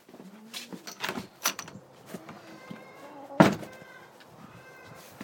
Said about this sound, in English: I'm gonna open that door really fast before I take the milk in.